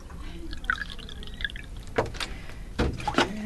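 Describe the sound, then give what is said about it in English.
Distilled water is poured into a neti pot, with soft trickling and dripping building to a few brief splashy gurgles near the end. No one speaks. “I usually do a couple scoops of salt in there. Distilled water. I just pour that in.”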